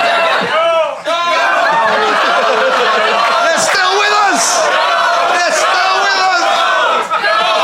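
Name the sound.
crowd cheering enthusiastically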